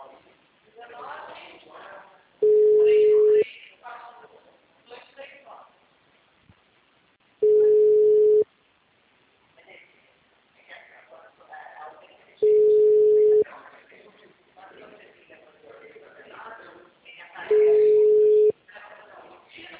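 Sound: telephone call tones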